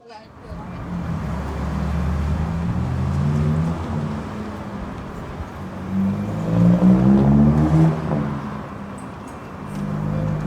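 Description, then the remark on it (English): A bus engine drones steadily from inside the vehicle at around 12:30 at night, with a deep rumble that swells slightly as it moves, while indistinct voices murmur faintly in the background. “Yeah, so why on a bus at midnight? In fact, actually, 12:30. And I think this is not just a bus, but it's a workplace.”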